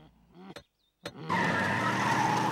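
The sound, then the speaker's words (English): A limousine brakes hard to a stop at traffic lights, its tires letting out a loud, sustained squeal after a low engine rumble and two sharp knocks. No one speaks. “The limo has to stop and wait at some traffic lights.”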